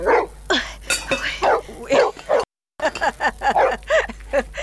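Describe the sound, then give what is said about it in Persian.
A dog at a tent on a mountainside barks over and over in loud, sharp bursts mixed with higher yips, with a short break partway through before the barking resumes. “این سگ پالوی خیمه ما چرا غوغو میکنم؟”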